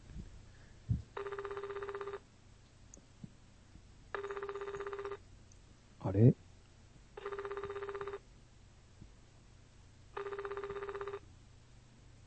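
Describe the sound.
A phone ringback tone on an outgoing call sounds four times in a steady, evenly spaced pattern, each ring lasting about a second, with a brief voice murmuring once in the middle; the call goes unanswered to voicemail.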